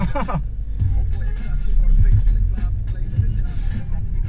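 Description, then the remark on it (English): Steady low engine and road rumble from inside a moving car, continuous and fairly loud, with faint muffled voices mixed into the drone. “This is the second time I've been in this car.”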